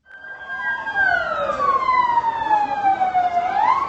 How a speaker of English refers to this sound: All through Saturday night, ambulances rushed the wounded to hospitals across Gaziantep.